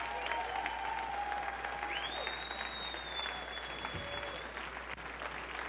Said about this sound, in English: Can you give him another hand clap?